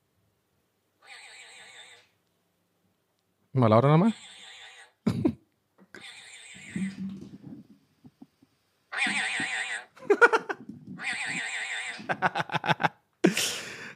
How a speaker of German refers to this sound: Und dieses Geräusch klingt so, von diesem Vogel. Achtung.